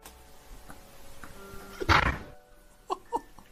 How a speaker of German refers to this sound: Junge, ist es das mit der Tür, wo er die so zuknallt? Das ist doch wirklich geisteskrank.